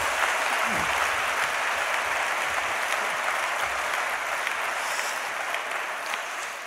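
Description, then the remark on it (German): An audience at the Christusbund claps steadily to welcome a guest, a dense, even wash of many hands that holds at a fairly loud level throughout, with no voices standing out. “Jetzt dürft ihr nochmal richtig klatschen.”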